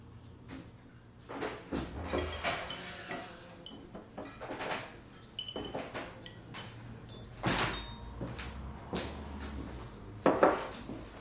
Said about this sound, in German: Ich öffne die Tür.